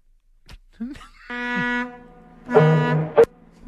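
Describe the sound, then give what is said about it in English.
Two long, steady blasts of a deep ferry horn as the ferry pulls away from port, each holding one low droning tone for about half a second, with a few brief clicks and knocks before and between them. “See, that's ferry pulling away from port.”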